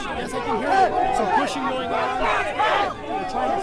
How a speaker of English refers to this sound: This conversation soon descended into a shouting match with other protesters, and I never did get the woman's name, but she did say she was from Rhode Island.